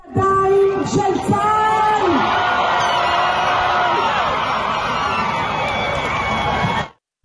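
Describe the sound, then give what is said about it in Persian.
A large crowd of hostages' families in Hostages Square, Tel Aviv, erupts in loud, sustained cheering and joyful shouting at news of seven Israeli hostages handed to the Red Cross. High whoops and screams rise over a dense roar of voices that carries on for several seconds before cutting off. “با اعلام خبر تحویل 7 نفر از گروگان‌ها به صلیب سرخ، خانواده‌ها در میدان گروگان‌های تل‌آویو فریاد شادی سر دادند.”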